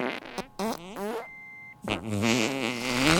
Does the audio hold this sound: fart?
yes